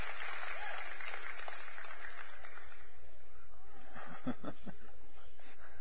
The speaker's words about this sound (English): Youth and kids, you're dismissed. Big round of applause. Y'all clap for the kids.